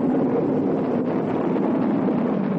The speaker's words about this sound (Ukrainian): Ми чуємо звук, як корабель з першим космонавтом на борту стартує з космодрому Байконур. 27-річний старший лейтенант облетів землю, успішно повернувся додому та увійшов в історію.